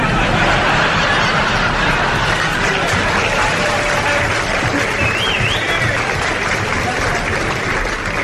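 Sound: audience applause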